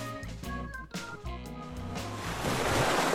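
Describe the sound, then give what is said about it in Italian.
Sea waves wash onto the shore in a steady roar, swelling louder toward the end, while soft tonal music plays over the surf in the first half. “Quindi fermatevi un attimo, sedetevi qui con me sulle rive di questo mare”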